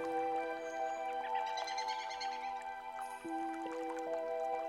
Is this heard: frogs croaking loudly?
no